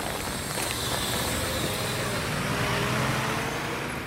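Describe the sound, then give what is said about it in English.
A bus rolls steadily past on a road in Rome, driving over a freshly filled pothole and flattening the new asphalt, its engine rumble and tire noise forming a dense, continuous roar with no one speaking. “Luckily, a bus comes by, drives over the newly filled pothole, and the asphalt is immediately flattened.”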